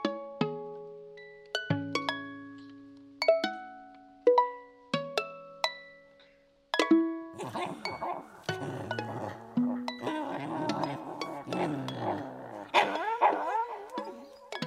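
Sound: puppy growling and barking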